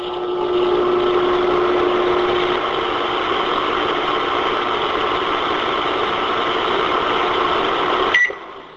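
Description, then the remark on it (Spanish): A steady electric hum with a low tonal drone runs continuously for several seconds, then ends with a short sharp click and a brief higher tone, as a microwave oven runs and stops. “Sí, la invención del horno microondas es un ejemplo clásico de serendipia”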